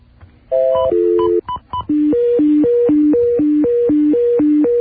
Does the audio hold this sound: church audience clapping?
no